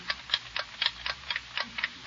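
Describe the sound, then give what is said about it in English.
A noisy wristwatch, held up to a listener's ear, ticks loudly and steadily, about four sharp clicks per second in an even rhythm, with nothing else audible. “You can't tell whether it's the watch ticking or somebody knocking on the door.”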